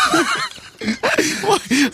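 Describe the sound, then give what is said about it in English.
A man imitates an elephant on a TV show with Vernon Kay, giving a series of loud, high, wavering vocal cries, three or four strained trumpeting bursts separated by brief pauses. “My dad's nervous, so he goes ahead and does an impression of an elephant.”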